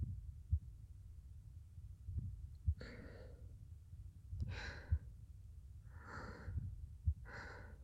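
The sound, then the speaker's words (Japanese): A muffled heartbeat thumps in soft paired beats at a slow, steady pace, while gentle breaths rise and fall over it. “君はどう？私の心音安心する？”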